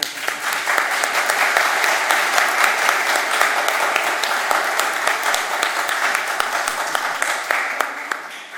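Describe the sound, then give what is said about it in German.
Steady audience applause during a church service, marking a 50-year anniversary, a dense crackle of many hands clapping at once, sustained and fairly loud throughout with no voices standing out. “Also dann euch danke für heute und danke für 50 Jahre und dass ein Applaus wird.”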